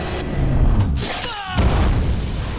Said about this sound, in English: A mighty explosion rips through the tunnels, knocking Napoleon and Amber off their feet.